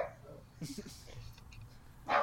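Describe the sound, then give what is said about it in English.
A dog barks excitedly in short bursts, a cluster of yips early on and one louder bark at the end, with low murmuring voices underneath. “I think this dog's very excited about Baku in 2 weeks' time.”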